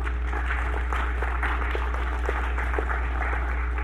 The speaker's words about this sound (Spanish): Se merece un aplauso el Señor.